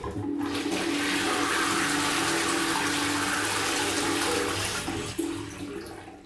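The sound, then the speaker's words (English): A toilet flushes with a loud, steady rush of water that churns for several seconds, then drops off and trails into a quieter gurgling refill. “Now you make me want to go toilet.”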